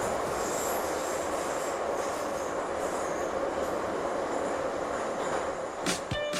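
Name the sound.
metro train running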